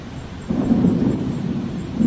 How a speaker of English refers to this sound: The storm is coming outside.